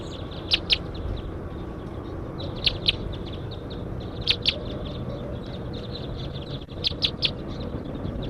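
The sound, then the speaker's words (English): Short, sharp high-pitched chip calls from a passing flock of about ten wild crossbills flying over ring out in scattered bursts of two or three over a steady low rumble of background noise. “Very large flocks flying over now.”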